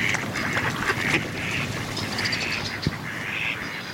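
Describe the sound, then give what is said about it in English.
Several ducks quack in a steady, overlapping chorus, their nasal calls repeating without pause over a constant outdoor background hiss, with one brief sharp knock near the end. “Ducks sleep while floating in protected bays.”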